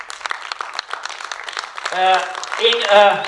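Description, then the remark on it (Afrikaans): A crowd at a worship service claps hands in a quick, scattered burst of applause for a woman, then loud voices rise over the last of the clapping. “Die wat in die bidkamer was, jy kan my hande klap vir haar.”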